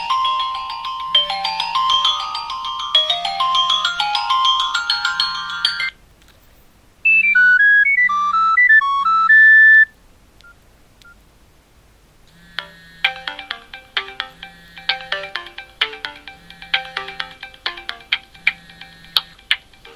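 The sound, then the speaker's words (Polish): Several different Optimus phone ringtones play one after another with short gaps between them, bright melodic electronic tones over a steady low pulse, loud with no talking. “Wyciszyć dźwięki TOX-a, ponieważ nie byłoby możliwe odsłuchiwanie poszczególnych dzwonków.”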